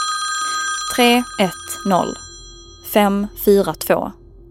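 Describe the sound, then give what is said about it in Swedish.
A phone rings in an elevator with a repeating pattern of short, bright, tonal bursts in two groups of three, over a faint steady hum. “Så i hissen ringde telefonen.”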